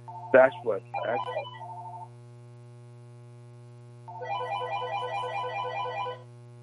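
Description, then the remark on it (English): Someone's phone rings during a discussion with a rapid warbling electronic trill lasting about two seconds, after a few brief tonal blips earlier, all over a steady low electrical hum. “are you able to mute whoever phone is ringing during this discussion?”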